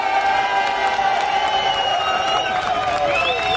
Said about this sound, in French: Et puis bien sûr, merci à Joliment, je vous demande de les applaudir très fort.